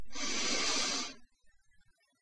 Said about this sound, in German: Und beginne nun tief zu atmen. Einatmen.